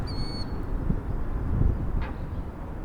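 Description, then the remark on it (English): A brief, clear high-pitched bird call rings out at the start, with a fainter chirp later, over a steady low outdoor rumble of wind and car traffic by the Rio Grande in El Paso, where the river's water level is extremely low. “Birds, wind, and even cars are more likely to be listened to because Rio Grande water level is extremely low.”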